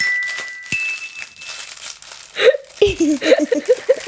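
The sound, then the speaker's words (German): Crackly crinkling of a transparent plastic bag being torn open around a fortune cookie, with sharp snaps early on and voices chattering and laughing over the rustling toward the end. “Sie hatte eine Tüte aufgemacht.”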